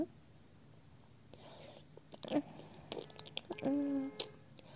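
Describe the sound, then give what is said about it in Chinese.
Soft, wet licking and slurping sounds of someone licking a man's penis come in irregular bursts, with a few sharper smacks and a brief low murmur of a voice near the end. “你不会现在听着我给别人舔鸡巴的声音，狗鸡巴都开始硬了吧？”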